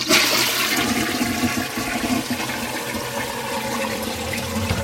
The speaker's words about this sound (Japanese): トイレ流します。